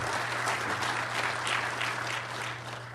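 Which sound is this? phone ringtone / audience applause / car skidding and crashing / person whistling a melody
audience applause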